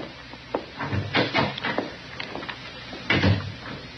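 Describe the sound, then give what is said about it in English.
A door leading back to the jail cells is opened and shut, a string of wooden clunks and rattles with a heavier thud near the end, and no voices. “You go on back through that door there.”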